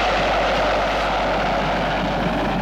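A small private airplane's engine drones in a loud, steady roar, unbroken throughout, with no voices, as the plane is about to land at Saint-Olas airport.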